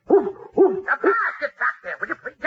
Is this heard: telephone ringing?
no